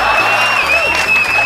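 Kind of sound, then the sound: crowd, audience applause and cheering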